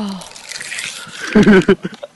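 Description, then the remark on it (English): 20-ounce plastic water bottles crinkle and squish steadily as someone chugs three of them, caps off, in five seconds, followed by a few short, loud bursts of voice near the end. “Listen, when you hear like, that's him squishing it and sucking it all in.”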